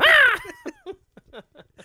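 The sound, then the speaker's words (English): A person imitating a big bird sitting in a tree voices a loud, harsh caw, one strong drawn-out call, followed by a few softer clipped sounds that trail off into quiet. “I'm a big bird just sitting in a tree.”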